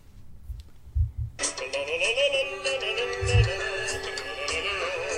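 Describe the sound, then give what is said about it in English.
A quiz contestant's buzzer sounds after a few dull low thumps, a bright, harsh electronic tone rich in overtones that holds steady and keeps going, with slight wavering, until the end. “Let me hear your buzzers”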